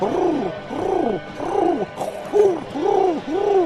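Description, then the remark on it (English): A voice imitates a pigeon's cooing: about six soft, rounded coos in a steady rolling rhythm, fairly loud, with no other talking. “I was doing a cooing noise.”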